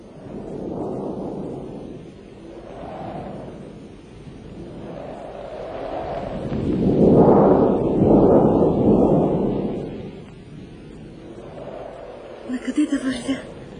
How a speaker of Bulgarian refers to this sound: Бурята се усилвала.